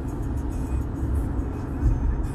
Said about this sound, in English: What the fuck is this truck is doing, bro?